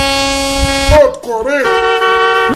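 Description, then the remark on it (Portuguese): A car horn blares in long, loud, sustained blasts, its tone briefly wavering and dipping in the middle before holding steady again. “Cuidado você do outro lado quando for buzinar. Olha. Buzinou é 40.”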